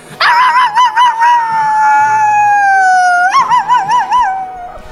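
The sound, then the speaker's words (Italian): The battle cry of Super Dog, a caped and masked superhero dog in a story: a long, loud howl, wavering at first, then holding a steady tone that sinks slightly before leaping higher into a warbling, trembling finish that fades away. “Il suo urlo di battaglia è...”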